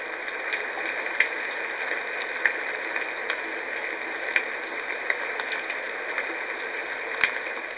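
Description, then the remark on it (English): Steady rain falling on leaves, a dense even hiss with scattered sharper drips ticking through it every second or so. No voices, just the continuous soft patter. An ambient rain-on-leaves sound track played in a relaxation program. “shifting to rain leaves.”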